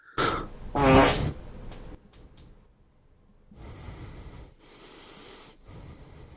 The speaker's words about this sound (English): I just farted. Excuse me.